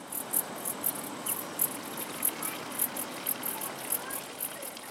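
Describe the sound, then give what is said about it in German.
Steady splashing of a fountain beside the toilet hut of a granite-built mountain hut at nearly 1900 metres, in a clearing in a larch forest, fills the scene at moderate volume, while crickets chirp in a quick, regular rhythm above it. No one speaks. “Erbaut auf einer Lichtung im Lärchenwald, ein Brunnen plätschert neben dem Toilettenhäuschen.”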